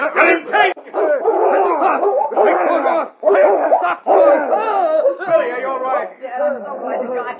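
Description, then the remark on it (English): The dog King snarls and growls ferociously while attacking a man, its noise tangled with the man's panicked shouting and cries in a loud, continuous struggle. “The dog way, my friend.”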